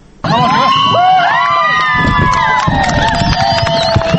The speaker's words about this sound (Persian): این صدای خوشی و تشویق هواداران تیم ملی دختران افغانستان است که این تیم توانست در دقیقه 20 میدان اول نخستین گل را به ثمر برساند.